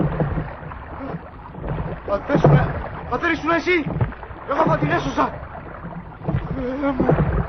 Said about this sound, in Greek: Θεέ μου, η βάρκα της βουλιάζει!